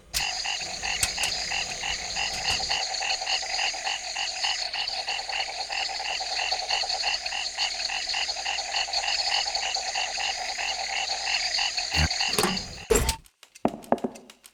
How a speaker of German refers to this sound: Ein deutscher Wald.